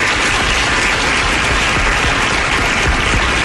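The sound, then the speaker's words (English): Steady, loud applause from an audience welcoming show host Ted Nugent, a dense wash of many hands clapping continuously without a break and no voices standing out. “I think they're going to be clapping a lot today.”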